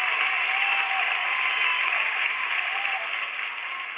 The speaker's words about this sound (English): Just a little applause we wanted to share this morning to show how much we appreciate you.